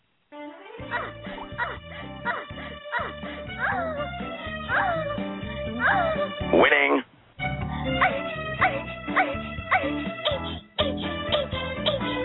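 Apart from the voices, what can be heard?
dog barking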